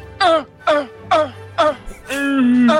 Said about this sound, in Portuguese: Lembra disso? São eles na cozinha! Dona fazendo aquela tosse maluca! Velociraptors! Velociraptor tossindo na cozinha! Parece meu avô, mano!